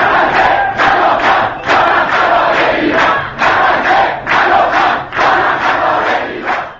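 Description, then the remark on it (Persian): A large crowd of opposition protesters at a rally in Iran chants slogans in unison, loud rhythmic bursts of many voices in a steady repeating beat, with no single speaker; slogans included "Neither Gaza nor Lebanon" and the name of Iran. “تظاهر کنندگان در راهپیمایی های روز گذشته همچنین بارها نام ایران را فریاد زدند.”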